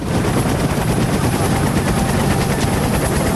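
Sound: helicopter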